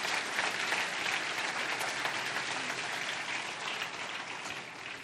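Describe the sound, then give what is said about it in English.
Steady, loud applause from a crowd giving a round of applause for Jesus, a dense wash of many hands clapping for about five seconds, holding level throughout and easing only slightly at the end, with no voices heard. “Can we give Jesus a big, big round of applause this time?”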